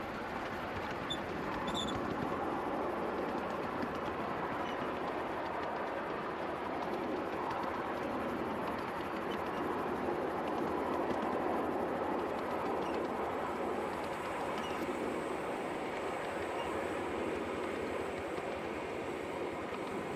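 A steam locomotive rumbles steadily along the rails with steam back on as it climbs a gradient, a dense, continuous mechanical roar with a broad midrange chug and hiss that holds at an even loudness throughout, with no voices.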